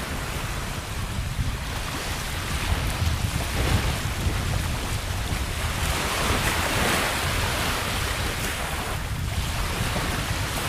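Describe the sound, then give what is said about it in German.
Gentle waves wash steadily onto the Südstrand beach on Rügen, by the Baltic Sea, a continuous soft roar of surf with mild swells in loudness and no voices. “Die sanften Wellen laden zum Schwimmen und Planschen ein.”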